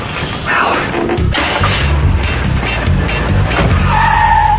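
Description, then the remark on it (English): A car, the Manuel Mobile, roars as its tires skid and squeal across the pavement, the engine noise loud and continuous, with a sharp, sustained screech rising near the end. “Hey, that's not the way to treat the Manuel Mobile.”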